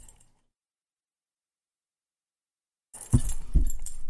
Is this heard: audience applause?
no